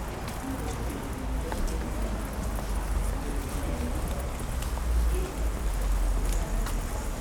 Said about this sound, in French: On se croirait plus à Lyon, ici. Ouais. Il pleut encore, ici.